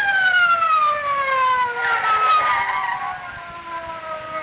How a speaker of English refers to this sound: Listen. Police car. Sounded like it.